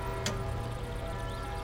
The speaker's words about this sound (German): Achten Sie genau auf dieses Geräusch. Andere Geräusche sind nicht von Bedeutung. Konzentrieren Sie sich nur auf das Ticken der Uhr. Wenn Ihre Aufmerksamkeit abschweift, dann lenken Sie sie zurück auf das Ticken der Uhr.